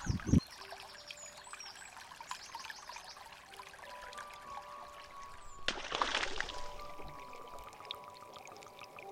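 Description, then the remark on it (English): The River Rye flows and trickles steadily over stones, a continuous babbling with a brief louder gush partway through, and no voices. “Next time you come to the River Rye, maybe play some pebbles to help us settle under.”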